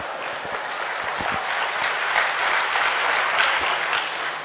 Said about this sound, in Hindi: तालियां बजाइए अल्लाह।